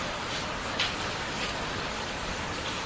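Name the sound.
rain falling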